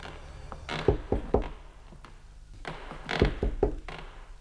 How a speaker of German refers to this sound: Keine der Türen zum großen Vorraum stand offen. Justus wandte sich in Richtung Salon und klopfte vorsichtig an.